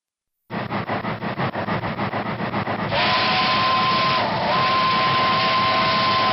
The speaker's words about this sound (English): This sound has been preserved. It's an original recording of the steam engine whistle on the miniature train ride here on the old site of Riverview Park in Des Moines.